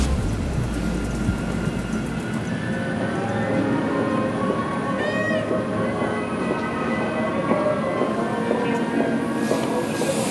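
A passenger train, express number 712 heading to the front line near Kramatorsk, Ukraine, rumbles steadily along the rails, a continuous roar of wheels and carriage noise with faint metallic squeals and rattles, no voices.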